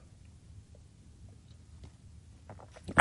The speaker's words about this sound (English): I'm just going to have a little sip of tea so that people watching this on YouTube later will know exactly what I'm talking about, okay?